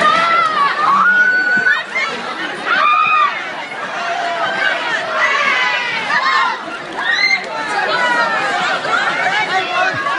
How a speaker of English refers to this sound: Here on Friday at a Walmart in Moultrie, Georgia, a crowd of more than 100 shoppers went wild for a sale of prepaid cell phones. Video went viral on YouTube over the weekend.